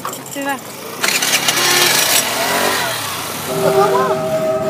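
A tourist steam train engine in Cuba hisses loudly in a long burst of broad, rushing noise, then rumbles steadily before a high, sustained whistle tone sounds near the end.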